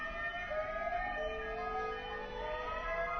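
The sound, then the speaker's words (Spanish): Emergency sirens wail steadily outside, their tones slowly rising and falling over a constant low rumble, with no one speaking. “Bueno, se están oyendo, me parece, unas sirenas.”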